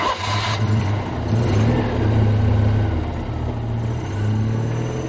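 A car engine hums steadily, its low drone swelling as it accelerates, then easing slightly before building again. No voices, just the continuous motor rumble throughout.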